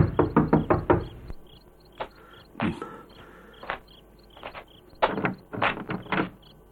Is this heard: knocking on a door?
yes